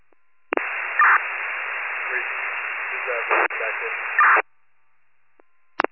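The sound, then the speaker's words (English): A burst of harsh, tinny radio static switches on abruptly, hisses steadily for about four seconds with a few louder crackles, then cuts off, followed by a faint click. “Who's that radio static?”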